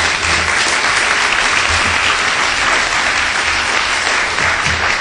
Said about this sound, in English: So, just a quick round of applause for our panelists. Thank you very much.